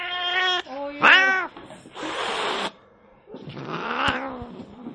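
A cat gives a couple of loud, drawn-out yowling growls, then lets out two long, harsh, threatening hisses, with brief pauses between the outbursts.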